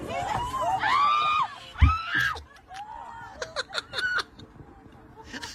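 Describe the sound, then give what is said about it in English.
Passengers on a Delta flight scream and shriek in short, high-pitched bursts as a loose pigeon gets on board, with a crowd murmuring and laughing nervously, and sharp clattering and flapping sounds toward the end. “Let's hear some screams on a Delta flight as a loose pigeon is snuck its way on board.”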